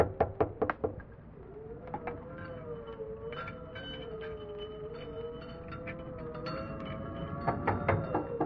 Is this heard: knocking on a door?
yes